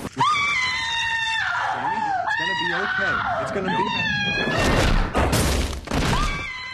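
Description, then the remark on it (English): A woman screams loudly and repeatedly in long, shrill, wavering cries in a clip from the TV series The Bionic Woman, broken up by harsh bursts of noise that sound like crashes or thuds. “A lot of screaming and a lot of exposition.”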